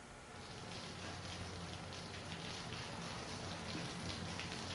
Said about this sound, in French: Oh, la pluie! On a besoin de toi, pluie.